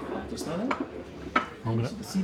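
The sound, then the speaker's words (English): Plates and cutlery clatter as food is set down, with a few sharp clinks and scrapes over a steady background murmur of voices. “There's some food coming.”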